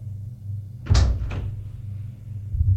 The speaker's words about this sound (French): Il ouvre la porte-fenêtre